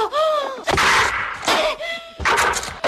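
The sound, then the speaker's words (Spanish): A red deer stag roars during the rut (the berrea) in the mountain ranges: loud, drawn-out bellows with a wavering tonal core, broken up by harsh, noisy bursts, repeated about three times in quick succession. “El celo del ciervo, ¿verdad? Con la berrea.”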